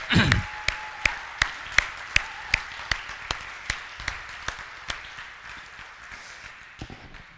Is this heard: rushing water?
no